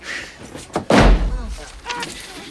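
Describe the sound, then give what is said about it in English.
Scrooge's door, with Bean Bunny on the doorstep, slams shut with a single loud, heavy bang and a brief low rumble trailing off, with faint voice-like sounds before and after it. “Reopening the door, he throws the wreath at the hopeful rabbit.”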